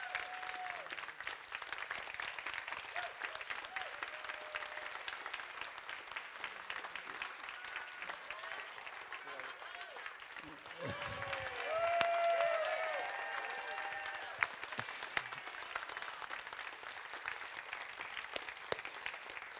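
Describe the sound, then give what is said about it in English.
A church audience applauds steadily for about twenty seconds to welcome its new lead pastor, a dense wash of clapping that swells briefly near the middle, with a few faint whoops and cheers rising over it. “Would you give a hand of welcome to your new lead pastor”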